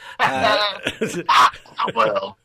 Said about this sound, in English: I've made myself cough now.